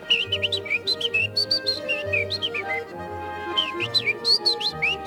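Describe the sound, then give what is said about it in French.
Busy birdsong from a Eurasian wren and a blackcap, bright rapid trills and warbling phrases overlapping continuously, with a low steady hum underneath and no talking. “Qu'est-ce qu'on entend là? Alors, il y a un troglodyte mignon et puis une fouette à tête noire.”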